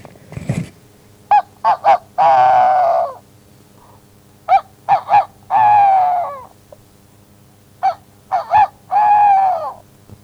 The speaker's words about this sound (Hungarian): Aztán elégedetten kukorékolt megint.